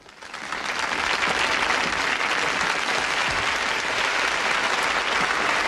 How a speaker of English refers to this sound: Rita, Vera, Ida, Sandra and the children stand and begin to clap. Others follow.